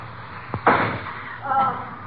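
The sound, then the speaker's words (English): A firecracker set off inside a house to try to blast open the lock of a suitcase pops once with a dull, muffled bang and a brief hissing tail, preceded by a faint click, over a low steady hum, with a soft murmur of voices afterward. “Didn't work. My last firecracker, too.”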